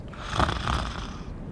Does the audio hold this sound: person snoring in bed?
yes